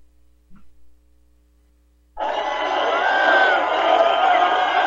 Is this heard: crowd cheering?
yes